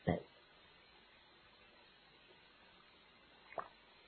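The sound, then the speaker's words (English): Someone drinks water from a glass, with a short wet sip or gulp at the start and another brief one near the end, separated by quiet room tone. “Okay, I drink water.”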